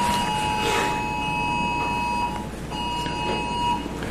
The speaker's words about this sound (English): Got an Amber Alert there. We'll let the beeping stop.